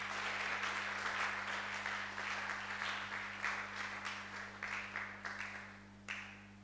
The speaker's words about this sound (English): Oh, let's clap, let's clap, let's clap.